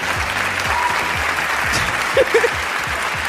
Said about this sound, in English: We're cheering that he's gone, finally.